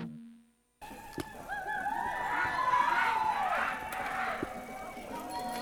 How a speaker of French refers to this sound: Et ce qu'on entend, eh bien, c'est les sonnettes d'une manifestation à vélo, puisque dans Zoom Écologie, on aime bien les manifestations à vélo.